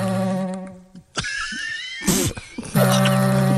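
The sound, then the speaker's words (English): Music by a band, played on vegetable instruments: buzzy, reedy droning tones with squeaky sliding pitches, broken by a sharp noisy rasp midway before a louder sustained buzzing chord returns. No one speaks. “We have music from ….”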